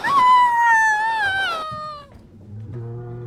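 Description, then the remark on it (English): A newborn baby cries in a stable in one long, high, wavering wail that slides downward in pitch, then trails off into a short, lower, steadier note. No one speaks. “Finally, the cries of a newborn fill the stable.”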